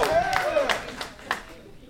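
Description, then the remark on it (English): A small live crowd cheers for Youngstown, with whooping voices rising and falling over a handful of scattered, fairly loud claps that thin out and fade within a couple of seconds. “That got more of a cheer than Columbus.”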